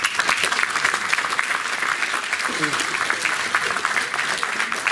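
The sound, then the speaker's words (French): Steady applause from an audience at a Paris Air Club ceremony as a trophy is presented to a departing member, a dense, even patter of many hands clapping at a constant loudness with no pauses. “Merci d'applaudir”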